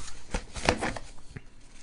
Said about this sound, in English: I'm going to shuffle these again and find our last one that we're going to go out on.